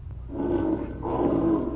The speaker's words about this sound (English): The growl of a mountain lion.